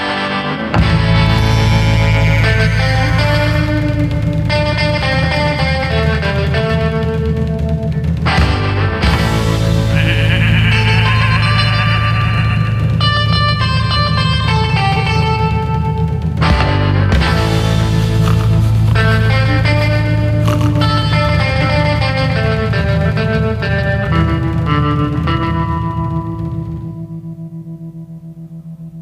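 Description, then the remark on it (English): A loud recorded rock song with fuzzy, distorted instruments and a warbling, bleat-like tone plays continuously for about half a minute from a radio studio board before tapering off slightly at the end. “…. …. I'll get to that. I want to hear that next one”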